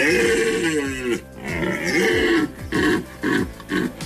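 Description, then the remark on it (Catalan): Deep, throaty bellows from rutting deer stags, a long groaning roar followed by several shorter rhythmic grunting calls, loud with no voices. “És la brama dels cérvols que cada vegada atrau a més visitants.”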